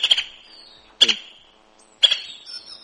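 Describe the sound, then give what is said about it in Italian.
A white-backed woodpecker in Abruzzo gives three sharp, high calls about a second apart, each a loud, abrupt note that trails off quickly, with no other sounds. “Allora, qui siamo in Abruzzo, e l'uccello è il picchio d'orso bianco,”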